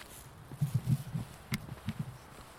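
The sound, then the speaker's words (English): Footsteps while walking a dog: a quiet, uneven run of soft low thuds, some with a sharper scuffing click, over faint outdoor hiss and no talking. “Carry on walking the dog for a bit.”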